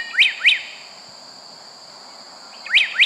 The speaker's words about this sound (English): So it's not surprising, then, that Chapman's choice for the most beautiful bird song of all comes from the Mexican cloud forest, the slate-colored solitaire.